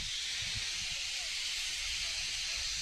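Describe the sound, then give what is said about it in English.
A steam locomotive at an exhibit in Altoona, Wisconsin, vents a loud, steady hiss of steam that runs unbroken throughout, with a faint low rumble underneath; its steam has changed from jet black to gray. “The steam has changed on the engine now. It's gone from that jet black to more of a gray steam.”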